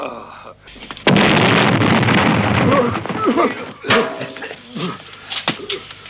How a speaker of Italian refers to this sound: Oh, il sistema d'allarme è rotto. Avrebbe dovuto fare un botto molto più grande.